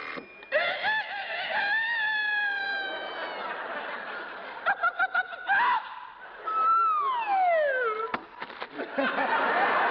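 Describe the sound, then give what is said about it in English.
A rooster crows loudly, a long drawn-out harmonic call followed by a short burst of choppy notes and a final crow that slides downward, with faint chatter underneath. “You see, at 5 a.m., the alarm clock rings, the rooster crows, the hen wakes up and lays an egg right in the frying pan.”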